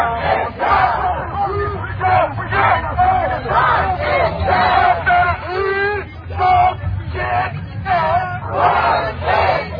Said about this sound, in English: And we captured one of the audio clips where protesters are chanting near the White House, if we don't get it, I believe that's referring to justice, if we don't get it, burn it down. Burn it down.